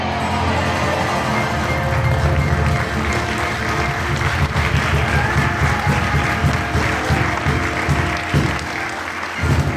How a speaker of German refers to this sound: Im Saal des Harzfelder Kulturhauses Eltern, Großeltern, Verwandte oder einfach nur Interessierte. Allesamt jedoch letztendlich begeistert, was dann auch der Applaus nach jedem Lied zu erkennen gab.